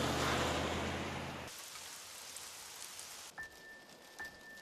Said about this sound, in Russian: Льет, как из ведра. Терпеть не могу это время года. Даже под зонтом от дождя не укроешься.